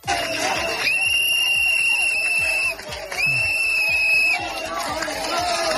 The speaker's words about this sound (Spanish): Gritos, abucheos, gritos de fuera a fuera